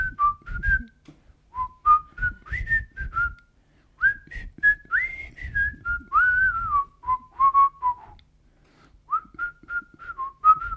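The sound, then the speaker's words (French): Someone whistles a bouncy melody, phrases rising and falling over about ten seconds with brief pauses, accompanied by soft low thumps or taps underneath. “Si tu veux que je siffle le”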